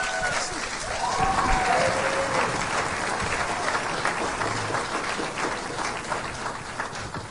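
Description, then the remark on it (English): Sustained audience applause for candidate Stacy Rogers, a dense, steady wash of many hands clapping at even loudness for several seconds, with a few faint cheers and whistles rising above it early on. “Round of applause for Stacy Rogers.”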